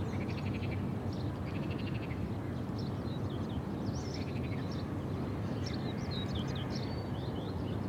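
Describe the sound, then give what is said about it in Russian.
An outdoor chorus of frogs croaking in pulsing trills, with birds chirping and singing in short bursts over a steady low rumble of background noise; no one speaks. “Лягушки кричат, птички поют.”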